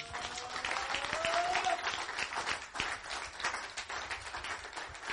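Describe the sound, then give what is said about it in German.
An audience claps for Jesus steadily for several seconds, a dense wash of many hands with a faint cheer or voice rising briefly in the middle. “Klatsch mal für Jesus.”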